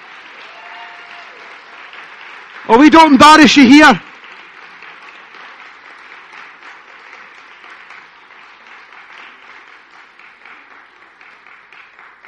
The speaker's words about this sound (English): There, come on, ladies. A round of applause for the lovely ladies there.